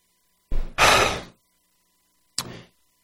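A front door opens with a short scrape and a longer, loud rushing sweep, then after a second of quiet it shuts with a brief, sharp knock, with an intern at the front door. No voices.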